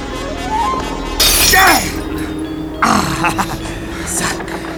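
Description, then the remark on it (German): A mirror hanging on a wall is smashed with a chair: a loud, bright crash of shattering glass, then a second burst of breaking and tinkling shards, with a man's low grunting and voices around it. “Da hängt ein Spiegel an der Wand. Mit dem Stuhl.”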